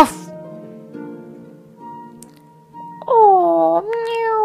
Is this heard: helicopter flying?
no